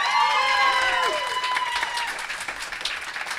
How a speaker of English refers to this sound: give her a big cheer.